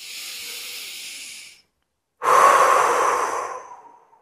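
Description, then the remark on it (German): Two deliberate breaths in a breathing exercise, hands on the back pushed outward by the breath: a long airy inhale, a brief pause, then a stronger, fuller exhale blown out through the mouth that gradually tapers off. No talking. “Und versuchst mal die Hände nach außen zu drücken durchs Atmen.”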